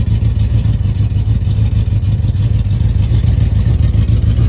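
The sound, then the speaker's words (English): A Ford Coyote V8 idles with a deep, steady rumble, its low burbling pulse holding an even rhythm and constant loudness throughout, with no voices over it. “Listen, guys, you need to really listen to these Coyotes.”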